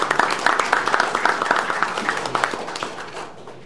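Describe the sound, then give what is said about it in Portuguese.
An audience applauds senators Marinor and Mozarildo with a steady patter of many overlapping claps, sustained and fairly loud before gradually thinning and fading toward the end. “Uma salva de palmas para os dois aí.”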